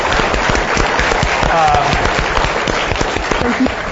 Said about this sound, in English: So please give him a round of applause for doing this.